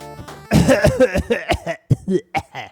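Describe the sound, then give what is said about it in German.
A fairly loud fit of coughing: a rapid, irregular series of about eight harsh, throaty bursts following a brief low hum, with no talking. “Hast du das, wo kommt das Husten jetzt her?”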